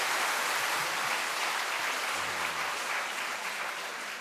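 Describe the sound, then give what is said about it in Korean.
A church audience applauds the members of Gangbuk Church who sang a special hymn, a dense wash of many hands clapping at even loudness throughout, with a faint low hum briefly underneath and no voices. “제가 실수를 해도 전혀 흔들림 없이 믿음으로 담대하게 찬양을 해주신 강북교회 형제자매 다시 한번 큰 박수를 보내주시면 감사하겠습니다.”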